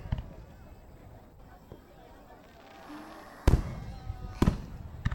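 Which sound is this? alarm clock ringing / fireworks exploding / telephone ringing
fireworks exploding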